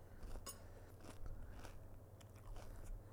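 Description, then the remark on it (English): Crunchy chewing of a puffed snack likened to salty Rice Krispies, eaten at a microphone, with a series of irregular crisp crunches and crackles over about three seconds, loud, with no talking. “Oh, get that crunch in there. It's like ASMR.”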